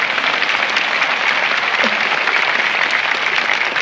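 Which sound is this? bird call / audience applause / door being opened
audience applause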